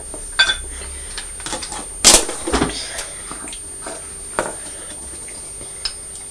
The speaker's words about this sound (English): This toast is very crunchy, isn't it? Can you hear it when you... The butter's going on.